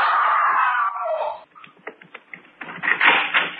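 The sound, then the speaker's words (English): A loud, sustained scream rings out for over a second, its pitch sliding downward, followed by scattered clattering knocks and a harsh burst of noise. “I heard someone scream.”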